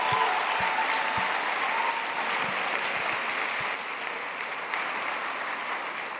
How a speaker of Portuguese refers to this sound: porque eles são incríveis mesmo, eles não são? Vamos dar uma salva de palmas para a nossa equipe do Alto Monte.